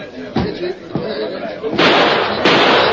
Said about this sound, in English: Did you see that? Deke shot at the mess, man. Shot through the window.